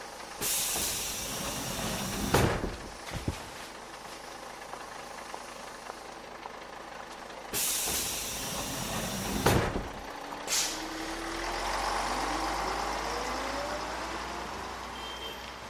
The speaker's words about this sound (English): I have to get off the bus.